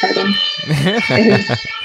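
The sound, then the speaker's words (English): A European emergency siren wails steadily in the background, a sustained high tone running under a person talking in the foreground. “Good to hear some European sirens in the background.”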